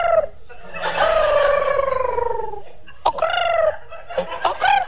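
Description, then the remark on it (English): A voice says the word 'Okurrt', trying to roll the R's, likened to a cold pigeon in New York City: two drawn-out, warbling, trilled calls, the first long and sliding downward, the second shorter and choppier, loud, with no other talk. “You know, it's like a cold pigeon in New York City.”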